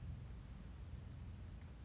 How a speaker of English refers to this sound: So relaxing, so soothing. I love listening to the rain and just letting my thoughts drift away. It's so nice. I could listen to it all day, not doing anything.